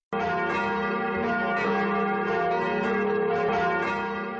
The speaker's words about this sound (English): Church bells rang across the Czech Republic on Wednesday night, echoing those in the Vatican to welcome the new Pope Francis I.